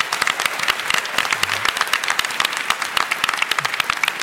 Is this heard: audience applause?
yes